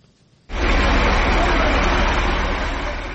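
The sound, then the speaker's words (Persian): After a brief quiet moment, a loud, deep engine rumble suddenly swells in and holds steady, like a heavy truck passing on a street, with broad road noise throughout. Heavy cargo trucks pass through the Gulbuta neighbourhood of Dushanbe day and night. “ماشین‌های باربری گران وزن از محله گلبوته شهر دوشنبه شب و روز می‌گذرند.”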